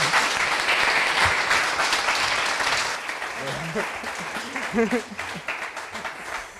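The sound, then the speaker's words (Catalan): A burst of applause from a group fills the first few seconds, dense and steady, then thins out as a voice begins talking over the fading claps. “Oh, un aplaudiment, per favor.”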